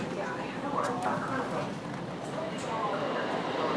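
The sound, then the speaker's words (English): A steady rumble of a subway train arriving at the platform as passengers squeeze on board, with a murmur of crowd voices mixed into the busy background noise. “When the right train arrives”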